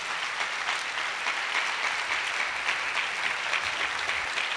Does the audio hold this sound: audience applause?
yes